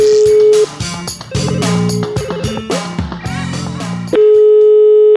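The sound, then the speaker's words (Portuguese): A telephone busy tone after a dropped phone call hums steadily, gives way to a jumble of shifting beeps and stepped tones, then the flat, loud tone returns and holds until the end. “Eu vou ligar pra ele dizendo que a ligação caiu.”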